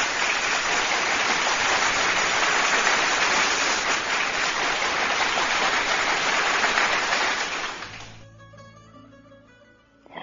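A crowd claps steadily in a dense, even roar of applause for a poem for about eight seconds, then it fades out as soft instrumental music with sustained tones comes in.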